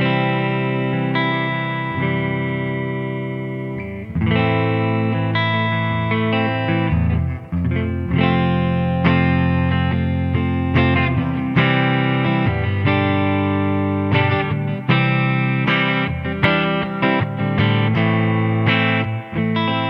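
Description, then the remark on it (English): An electric guitar played on its warm neck pickup through a '65 Deluxe Reverb tube amp, ringing chords and melodic phrases with a rounded, slightly driven tone and a touch of reverb, no voices. “So like I said, I'm running through the 65 Deluxe Reverb. Let's go ahead and check out the neck.”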